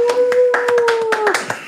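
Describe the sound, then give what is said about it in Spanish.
Applause of sharp, fairly regular hand claps, about five or six per second, with a steady whistle-like tone held underneath that dips in pitch near the end. No one speaks. “Así que recibamos con un fuerte aplauso”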